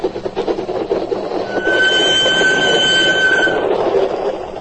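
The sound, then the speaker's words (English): A train rumbles loudly and steadily along the tracks as it crosses the border and the flat Holland marshes toward Denmark, with a high metallic wheel squeal rising partway through and fading near the end. “As my train crossed the border and thundered across the flat Holland marshes toward my refuge in Denmark”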